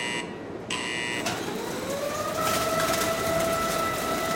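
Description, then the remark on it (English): A custom-built baling machine runs with a loud, steady mechanical roar as a high metallic whine rises and holds, as it compresses steel mattress spring cages, strung together in trains 12 beds long, into 250-pound bales. No one speaks. “They're strung together into trains, 12 beds long, and fed into a custom-built baling machine.”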